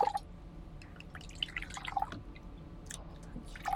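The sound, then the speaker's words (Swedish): Whisky being poured into a glass, heard as a quiet series of gurgling drips and small splashes with faint glassy clinks, no talking. “Ni får hälla upp så mycket ni vill.”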